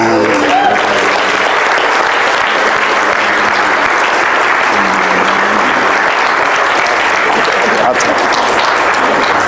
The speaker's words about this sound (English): Let's give a cheer.